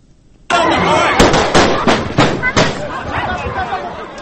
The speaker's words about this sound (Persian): محافظین امنیتی قرمانبیک باقیوف، رئیس جمهور برکنار شده قرقیزستان، در جریان تظاهرات در شهر اوش فیرهای هوایی کردند.